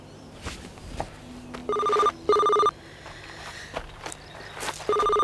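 A mobile phone rings with a loud electronic tone in short repeated bursts, two close together then another after a pause, over scattered footsteps of people walking to a car and faint background noise.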